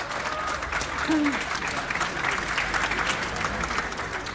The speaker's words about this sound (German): Wir haben 4 richtige Antworten. Ein Applaus